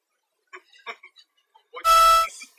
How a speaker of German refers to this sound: Das hat er nicht gesagt, das musst du rauspiepen. Pieps raus, ist cooler. dann wird niemals mal wissen, was da jetzt gerade gesagt wurde.